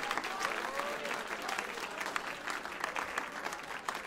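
A church audience claps for the Lord, a dense, continuous patter of many hands with faint voices mixed in, holding an even level for the full four seconds.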